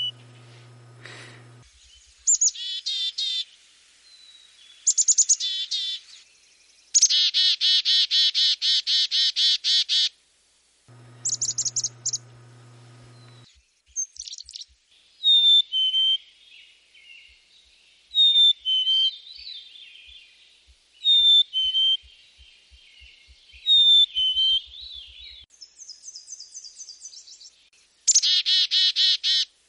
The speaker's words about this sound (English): Chickadees are named after one of their calls, chickadee-dee-dee-dee-dee, and interestingly, the number of D's the bird includes can be used by them to warn each other about different levels of threat from nearby predators like hawks and owls.